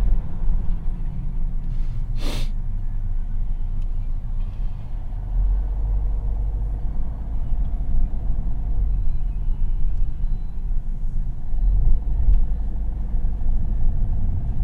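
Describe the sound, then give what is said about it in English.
Busy road traffic rumbles past continuously, a dense low engine drone with vehicles passing as somebody crosses the flow of traffic, and one brief sharp hiss-like burst early on. No one speaks. “Oh my God, this is somebody crossing the flow of traffic.”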